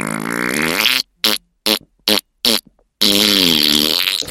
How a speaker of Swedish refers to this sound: Så han lyfte på ena skinkan och pruttade länge och ljudligt och... Så, men det fanns mer gaser kvar. Så han lyfte på den andra skinkan och pruttade igen och